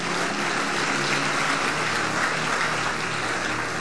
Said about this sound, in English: Hallelujah. Give the Lord a powerful hand clap.